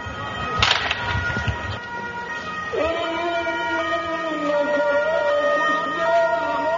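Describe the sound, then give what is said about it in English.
An ambulance siren rises and then holds a steady, slightly wavering wail as the ambulance rushes to a scene of gunfire on the main road to Fallujah, Iraq, where an American tank burns, following a couple of seconds of sharp, noisy bursts over a rumbling background. “Gunfire, an ambulance rushes to the scene as an American tank burns on the main road to Fallujah.”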